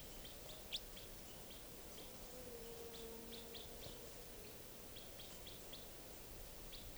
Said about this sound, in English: Recording that wild bird. The juvenile is still around. It's been coming down onto the cages. I could easily get a shot at it right now. This is it calling.